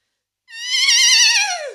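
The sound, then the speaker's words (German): A single high, quavering whinny from a human voice imitating a horse, fairly loud, wavering for about a second before sliding downward at the end. “Pferd. Sehr gut.”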